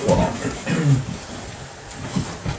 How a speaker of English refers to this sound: So, was barking, but the dog next door set her off.